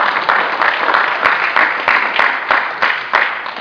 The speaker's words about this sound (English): Let's give the federal government a big round of applause.